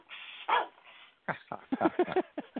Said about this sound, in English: I wonder if dogs listening to this show know what …'s saying when he barks. And they're like, this guy realized the fucking house is on fire?